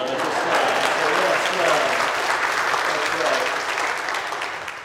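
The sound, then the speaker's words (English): A church audience claps steadily for about five seconds after the announcement that breakfast is returning on February 11th, a dense wash of many hands with a faint murmur of voices underneath, fading slightly at the end. “You may applaud.”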